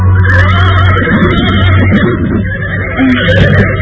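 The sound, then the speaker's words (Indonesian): A tall horse whinnies loudly, a long shaky neigh with a steady low hum underneath, followed by snorting and restless shuffling, as a rider is helped up onto its back. “Rangudeng dan Rayuyu membantu Kalabi naik ke atas punggung kuda.”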